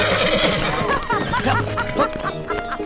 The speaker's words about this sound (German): Eine Sekunde darauf machen ihre beiden Pferde einen Satz nach vorn und rasen los, als wäre hinter ihnen eine Bombe explodiert.